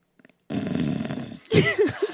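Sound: imitated snoring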